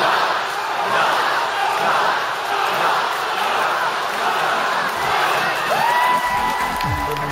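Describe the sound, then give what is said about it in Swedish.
A large crowd of fans at a stage event in Las Vegas screams and cheers continuously, a dense, loud roar that holds steady for several seconds, with voices chanting a man's name together over and over. “Och trots att han aldrig varit förtjust att stå i centrum så står han nu här på en scen i Las Vegas med ett hav av skrikande fans som ropar hans namn om och om igen.”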